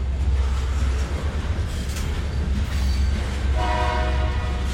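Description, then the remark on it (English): A freight train hauling grain on the only train line left in Concordia, Kansas rumbles steadily past, a constant heavy roar of rolling cars, and near the end a loud, sustained horn blast cuts in over the noise. No one speaks. “There's only one train line left in Concordia, Kansas, and these days it hauls grain.”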